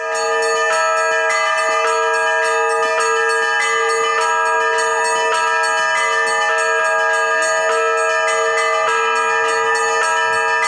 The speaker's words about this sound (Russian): Фестиваль поэтического и песенного народного творчества начался с молебна. На соборную молитву участников и гостей фестиваля зазывал праздничный и радостный колокольный звон.